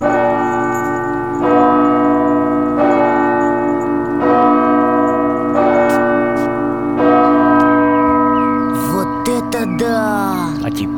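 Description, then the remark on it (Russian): Large church bells, rung by a bell-ringer pressing foot pedals with his right foot, ring in a steady rhythm, about five strikes roughly every 1.4 seconds, each with a rich, lingering hum. Near the end, other higher-pitched sounds briefly join in. “И вот видите, 2 педали. Как на ударной установке. Ну да, похоже. На них, на эти педали, звонарь нажимает правой ногой.”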